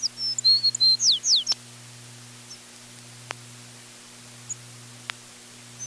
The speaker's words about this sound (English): Tree sparrows don't sing much before they arrive at their breeding grounds in northern Canada, but their song is a pretty one.